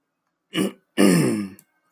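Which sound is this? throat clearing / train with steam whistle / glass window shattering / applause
throat clearing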